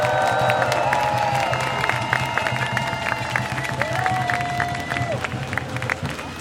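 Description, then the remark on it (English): A loud crowd bursts into sustained applause and cheering for a speaker representing PGNL and Utrecht for Palestine, dense clapping mixed with whoops and shouts, filling the space steadily throughout. “So I would like you already met him because he was already chanting, but can you please give a warm round of applause to”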